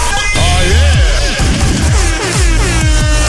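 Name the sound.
foghorn blast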